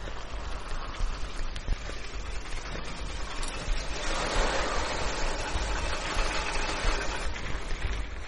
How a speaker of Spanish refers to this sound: Frenando a duras penas, el inspector viró en el patio de la fábrica y detuvo el coche al lado de un agente uniformado, que parecía estar esperándole.